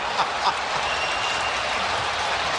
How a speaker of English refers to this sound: Well, no matter what. Even the Toronto fans are cheering him on. This is unbelievable.